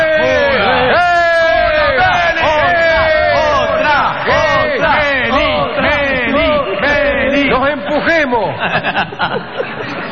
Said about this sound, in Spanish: ¡Bien! ¡Muy bien! ¡Bravo! ¡Bien! ¡Aplauso!